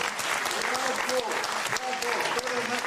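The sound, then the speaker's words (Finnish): Steady, dense applause from an audience, a continuous crackle of many hands clapping at even loudness for a few seconds, with some voices faintly mixed in underneath. “Tää aplodi hänelle.”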